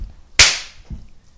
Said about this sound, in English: That was in sync. All right, good. Yeah, that wasn't two claps. That was... It was one power clap.